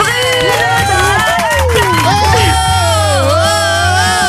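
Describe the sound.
A studio crowd cheers and whoops loudly for several seconds to welcome a listener from Saint-Raphaël, rising and falling voices over a steady low musical bed, with a dense wash of excited noise throughout.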